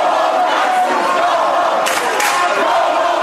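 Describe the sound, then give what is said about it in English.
A large crowd at the University of Florida shouts the chant "Go home, Nazis" in unison at white nationalist Richard Spencer, loud and dense, with voices blending into a continuous roar and a couple of sharper bursts of yelling. “The crowd shouting, "Go home, Nazis," turned out to greet white nationalist Richard Spencer at the University of Florida.”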